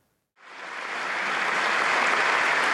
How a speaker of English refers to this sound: People just got up and started cheering him on. We could play just a little clip, just of a sample of that.